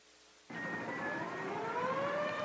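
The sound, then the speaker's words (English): Air raid sirens in Chicago, Illinois, heard from the roof of the John Hancock Center, start up abruptly and wail continuously, warning people to evacuate the city, their rising and sliding tones overlapping loudly over a broad roar, with no voices present. “The noise you hear is the air raid sirens, warning the people to evacuate the city as Martians approach.”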